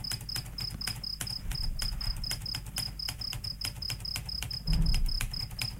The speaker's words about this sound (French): Ces satanés grillons sont les plus monotones que j'ai entendus de ma vie. Je trouve que c'est un son agréable. Ouais. Il paraît que... l'intensité de leur chant permet de calculer la température.